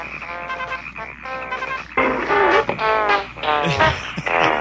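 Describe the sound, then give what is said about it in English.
Music plays from a spinning record, then grows louder and warbles as the pitch sags and drags downward as a frog slows the turntable, before picking back up. No one speaks. “Here's a frog stopping a record player.”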